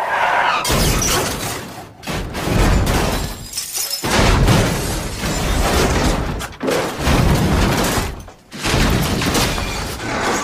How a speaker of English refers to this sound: I can't do that. Yeah, Siri, sound sound of a crashing car.